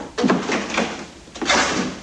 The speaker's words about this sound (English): Striding purposefully to the door, he opens it.